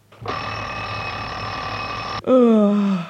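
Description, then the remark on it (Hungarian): An alarm clock rings loudly and steadily for about two seconds, a dense continuous jangle that cuts off abruptly, followed by a brief vocal sound with a falling pitch. “Ez a dögóra mindig későn csörög.”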